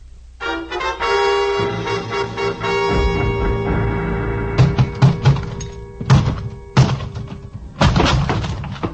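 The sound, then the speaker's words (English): A closet door is forced open until its lock gives way: a sustained ringing tone gives way to several loud, irregular thumps and splintering bangs, each blow sharp and heavy, with no talking. “The lock on the closet door gave up before I did, but only because it was older by several years.”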